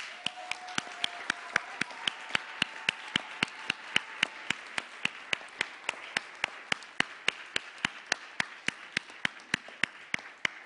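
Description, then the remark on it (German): An audience claps in a steady, even rhythm, sharp hand claps repeating about three times a second for around ten seconds over a soft bed of crowd noise. “Es gebt mir ihnen einmal einen kräftigen Applaus.”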